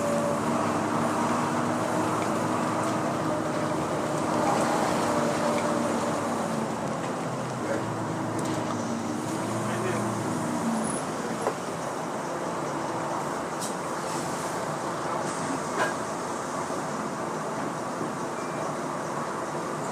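A steady, loud interior rumble of a moving bus in traffic, with a droning engine whine rising and falling early on and continuous road noise throughout, no talking.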